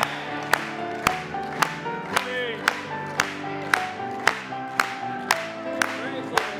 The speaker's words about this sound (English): Let's clap it to him tonight.